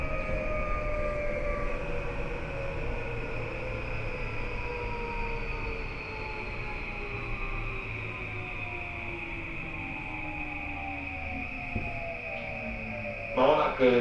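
A Tokyu Den-en-toshi Line local commuter train, running through to the Hanzomon Line and bound for Oshiage, rolls along toward Tsukimino with a steady low rumble and a sustained electric motor whine that slowly glides downward in pitch, heard from inside, with a brief clatter near the end.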